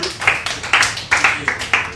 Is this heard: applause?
yes